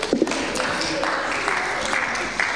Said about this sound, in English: So fantastic. Just give these two guys a round of applause.